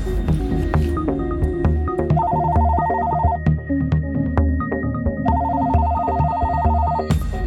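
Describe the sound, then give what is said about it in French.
A telephone rings twice in trilling bursts of rapid electronic pulses, each lasting over a second, heard clearly over a steady low rumbling background with no one speaking; the call comes from a gendarmerie in Meurthe-et-Moselle, France. “Et cette fois, c'est un coup de téléphone d'une gendarmerie de Meurthe-et-Moselle qui me le met sur la piste.”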